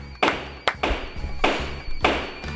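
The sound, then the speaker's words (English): A toy gavel from a toddler judge costume bangs down eight times in quick, uneven succession, each hit a sharp, hollow knock ringing briefly. The strikes are fairly loud, with no talking. “8 bangs of that damn gavel, man. That is a heavy-handed gavel.”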